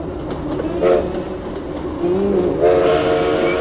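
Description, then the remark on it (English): A train horn blares over the steady rumble of rail cars, its tonal blasts shifting downward in pitch from the Doppler effect as the train passes, with no one speaking. “When that moving object passes us, we sense a change in pitch. That's called the Doppler effect.”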